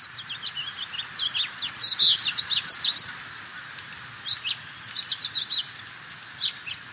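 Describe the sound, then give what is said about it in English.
A house finch, a sparrow-sized songbird, sings a bright, rapid warbling song of jumbled high chirps and trills in bursts over a soft steady background hum with no voices. “The bird we're profiling today is the house finch, so let's first listen to this recording that we have for the house finch.”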